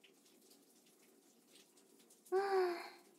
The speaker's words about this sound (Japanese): そろそろシャワーで流せ。